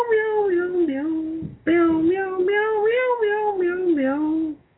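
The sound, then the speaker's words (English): A voice imitating a cat with two long, wavering meows, loud, separated by a brief pause, with no other sounds around it. “Play a little soft music. Meow, meow, meow.”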